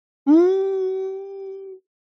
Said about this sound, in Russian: Подождал Николас. Дал ей еще немного поплакать. Долго ждать не пришлось.